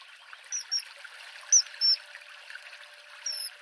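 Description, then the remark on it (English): A steady, soft trickle of river water along the Upper Dun Walk runs throughout, with a few short, high-pitched bird calls piping over it at intervals. “Look out for the flash of blue as kingfishers whiz by along this stretch of river.”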